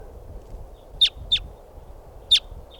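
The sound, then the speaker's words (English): Three short, sharp bird calls ring out, two close together and then one after a pause, high-pitched and clear above a low, steady rumble of background noise, from a flock of about 10 or 12 type 2 birds perched at the top of a tall Douglas fir by a camp. “Our type 2s must be about 10 or 12 birds. And now they're perched up on the top of a tall Douglas fir.”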